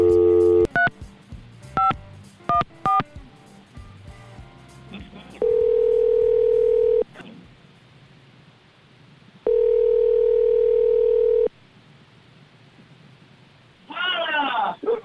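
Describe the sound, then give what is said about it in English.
A rapid run of beeping keypad tones as a phone number is dialed to call a colleague on vacation on a beach in Mexico, followed by two long, steady ringback tones separated by a pause, then a voice briefly answering at the end. “Now, she's off this week, actually on vacation in Mexico, but let's give her a call on the beach. See if she answers her phone.”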